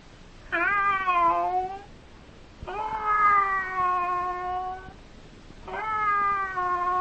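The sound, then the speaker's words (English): A cat meows three times in long, drawn-out, wavering cries, each lasting over a second with short pauses between, loud with no one talking. “And that is a cat.”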